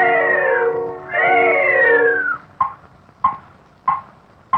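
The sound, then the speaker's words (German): Two long, wavering cartoon cat yowls rise and fall one after the other, from two black cats sitting on gravestones in a cemetery and pulling each other's noses in a 1929 animated cartoon, followed by a few sharp, evenly spaced knocks. No one speaks. “Zwei schwarze Katzen, auf Grabsteinen sitzend, ziehen sich gegenseitig an den Nasen, bis...”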